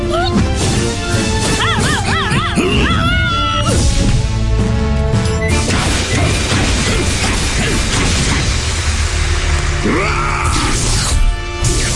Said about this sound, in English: Now the first player to bang the gong of trivia will receive the question.